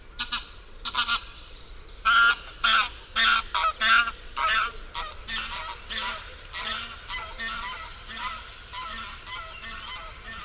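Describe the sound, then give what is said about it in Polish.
A male goose (gander), in the presence of another male, honks repeatedly in a steady series of loud, long, harsh, piercing calls, growing slightly fainter toward the end. “W obecności innego samca gąsior wydaje dłuższe, ostrzejsze i bardziej przenikliwe dźwięki.”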